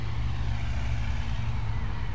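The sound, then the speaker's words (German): A steady, continuous rumble of road traffic, cars on the street heard from a school parking lot in Hameln, Germany, low and droning with a constant hiss on top and light birdsong, holding the same level throughout without any voices. “Ein leichtes Vogelzwitschern, das Rauschen der Autos von der Straße, noch hört man nicht viel.”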